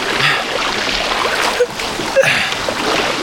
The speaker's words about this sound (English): paddled off.